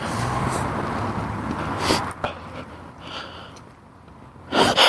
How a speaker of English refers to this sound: Excuse me. I sneezed.